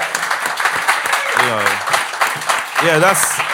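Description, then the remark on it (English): Steady applause from an audience for People Just Do Nothing fills the whole moment, loud, with a couple of voices briefly calling out over the clapping. “Can we have a round of applause for People Just Do Nothing before we go any further?”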